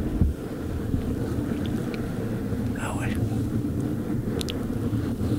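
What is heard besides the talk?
strong wind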